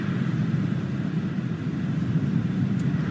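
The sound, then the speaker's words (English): A steady, low rumble of car traffic at a roadblock checkpoint where cars are checked, in the West Bank settlements, engines droning continuously at a moderate level with no distinct pass-bys standing out and no voices. “This is one of the roadblocks that kind of ensure that the cars get checked to see that no terrorists are coming in.”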